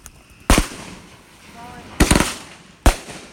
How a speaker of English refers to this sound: So it smells like something's burning. As technically it is, it's the paper from the fireworks.